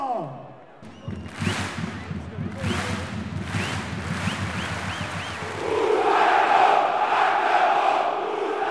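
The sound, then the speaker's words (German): A large stadium crowd of football fans at an FCM home game roars and chants in unison, jumping rhythmically to the chants, voices rising in rhythmic bursts, then swelling into a louder, sustained wall of cheering toward the end. “Ein typisches Heimspiel des FCM. Brüllen, jubeln, anfeuern und hüpfen.”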